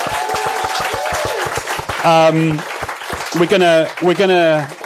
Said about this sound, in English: Thank you so much for your time, beautiful people. Give yourself a round of applause.